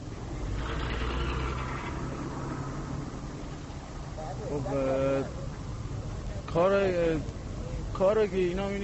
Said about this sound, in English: This is Shohada Square, a loud and busy traffic circle in the middle of Mashhad.